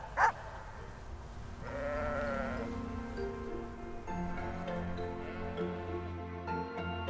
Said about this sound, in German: Die Kölner Stadtschafe werden am Abend wieder in dem Pferch aus Elektronetzen zur Ruhe kommen